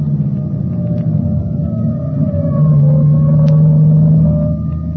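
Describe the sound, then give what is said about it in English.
A fire engine siren wails in slow rising and falling tones over a heavy, steady engine rumble, swelling louder about halfway through as it passes; the salvage squad's fire engine clears its way through traffic on its way to a fire. “That siren is clearing the way for it.”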